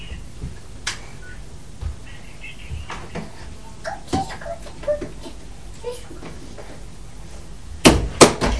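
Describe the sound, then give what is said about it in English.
A door thuds shut near the end, a solid knock with a brief rattle, after a few lighter clicks and bumps, while faint voices murmur in the background. “Okay, can you shut the door, please? Will you shut that door?”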